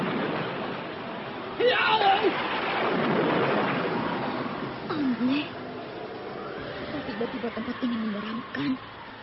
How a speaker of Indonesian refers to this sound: Angin datang menderu-deru, petir datang menyambar-nyambar, dan hujan tumpah dengan derasnya.